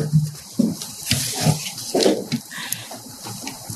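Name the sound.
water being poured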